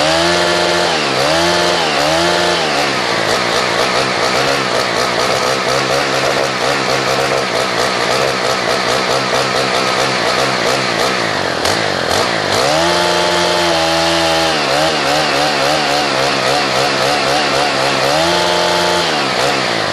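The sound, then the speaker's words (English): A chainsaw engine screams at high revs, up to 10,000 RPM, repeatedly bouncing off its rev limiter with a stuttering, pulsing whine, dipping and surging back throughout. “You can hear that it's got a rev limiter.”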